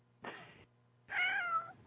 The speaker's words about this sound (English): There's a cat meow.